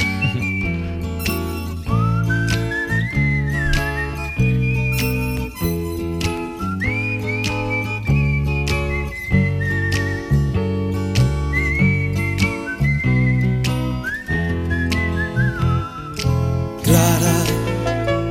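A bright whistled melody carries the whole intro of a song from more than 45 years ago, gliding and trilling over a steady band accompaniment with bass and rhythmic chords, loud and continuous throughout with no voices.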